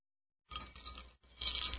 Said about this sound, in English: Are all elves required to wear bells? Yeah. Is that part of the uniform? Yep.